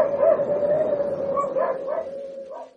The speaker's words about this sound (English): You should tell the Huskies, Chief. They've been going on bloody non-stop. Yeah. I don't know why.